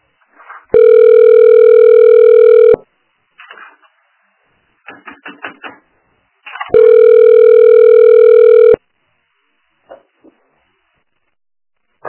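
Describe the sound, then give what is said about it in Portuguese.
A telephone ringback tone sounds twice in long, steady two-second bursts, with faint muffled noises between the rings and no one picking up. “Agora ela não atende, bonita.”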